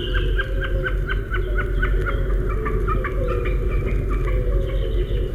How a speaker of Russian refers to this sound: Слышите, словно барашек блеет. Это высоко в голубом небе такует бекас.